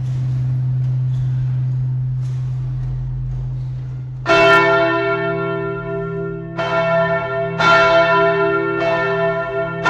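A low steady hum gives way to loud church bells that strike several times in an uneven sequence, each stroke ringing out with a long shimmering decay.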